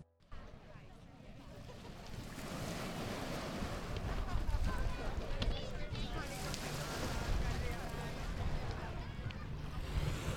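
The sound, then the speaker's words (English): Continuous outdoor seaside ambience at Broadstairs in Kent on a sunny summer afternoon: surf washing steadily, gusts of wind buffeting the microphone, and a murmur of voices and activity, broad and fairly loud throughout. “As you can probably hear from the background noise, I'm by the sea on a gloriously sunny summer's afternoon here at Broadstairs in Kent”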